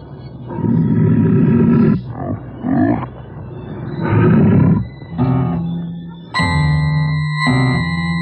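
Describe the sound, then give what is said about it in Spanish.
A large wild beast roars loudly several times in succession from a dark dungeon, each roar deep and drawn out with a harsh, rising and falling tone, with no voices. “Y un siniestro rugido rompe el silencio. El rugido de una bestia o el gemido de un hombre enloquecido.”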